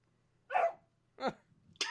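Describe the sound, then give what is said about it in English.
A dog barks three times in quick succession, sharp, with short pauses between barks and no talking around them. “Pod dog.”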